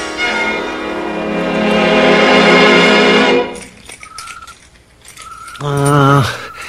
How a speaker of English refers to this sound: I haven't got them. Your keys? They're right there in your hand.